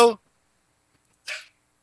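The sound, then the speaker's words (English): A dog, Scooter Pie, gives two short, sharp barks roughly a second apart in the background, with quiet in between and no talking over them. “That's a scooter pie barking in the background.”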